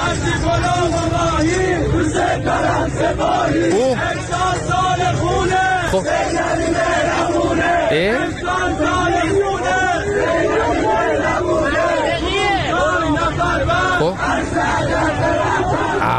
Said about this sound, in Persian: مثلا چی؟ مثلا این شعار دادن‌ها.